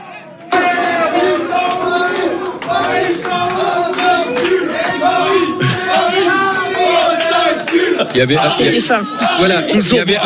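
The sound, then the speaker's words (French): Football fans chant loudly together in the bar-restaurant Nulle Part Ailleurs after the final whistle, many voices singing a steady, repetitive stadium refrain over crowd noise, with a burst of shouting and clapping near the end. “Et lorsque le coup de sifflet final a été donné, qu'on a vu les joueurs parisiens tomber à genoux, être dépités, voilà l'ambiance dans le bar-restaurant Nulle Part Ailleurs.”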